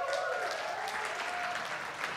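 A large church audience bursts into applause at an announcement that a staff member is going from part-time to full-time, many hands clapping in a dense, steady wash that holds at full strength for the whole moment.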